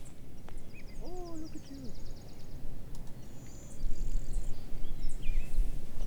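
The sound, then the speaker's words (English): A blue-winged warbler sings thin, high buzzy notes during a dawn chorus, faint against a steady rumble of outdoor background noise, with a few scattered chirps around it. “That's the blue wing warbler.”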